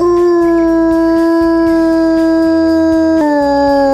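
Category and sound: animal, wolf howling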